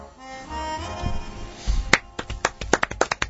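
A short burst of hand claps starts after a quiet, murmuring lead-in, sharp, coming in an uneven, quickening patter like a small group applauding.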